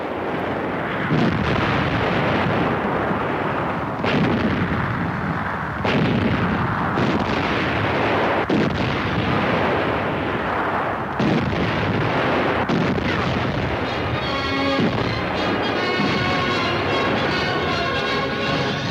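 Loud, relentless artillery fire in the desert armored battle at El Alamein, Montgomery's attack on the El Alamein front: heavy booms and blasts crash one after another over a continuous roar, and a droning mechanical whine rises near the end.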